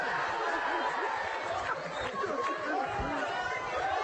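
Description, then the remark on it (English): Loud, steady crowd chatter at a basketball game between South Haven and Hartford fills the whole clip, a dense jumble of overlapping voices with occasional laughter breaking through, with people right beside the crowd microphone. “And got to turn down the crowd mic. Some people decided they needed to be right by it.”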